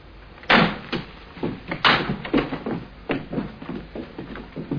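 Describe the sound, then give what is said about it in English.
A door opens with a sharp clunk of the latch, followed by another knock and several softer thuds and shuffles, like someone stepping through. No one speaks. “Funny that he'd leave the door open.”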